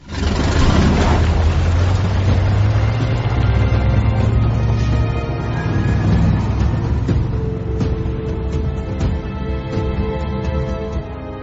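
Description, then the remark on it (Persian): A loud, steady motorboat engine drones with a deep low rumble and broad wash of noise, holding constant for the whole stretch with no voices. “موتور داره؟ معلومه که داره.”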